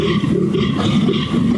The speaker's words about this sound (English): That's right, a European fallow deer. Wow.